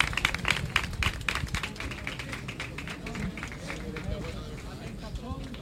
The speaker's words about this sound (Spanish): Emoción y lágrimas, Manolo. Aplausos.